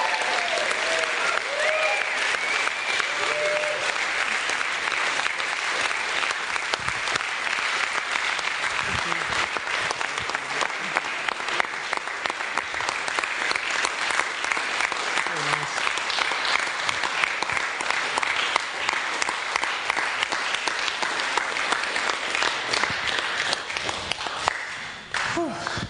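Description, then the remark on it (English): A large standing audience claps loudly and steadily for about half a minute for a leader as he comes out to speak, with scattered whoops and cheers rising above the dense wash of applause before it fades at the end. “shall we give Dave a cheer and a clap?”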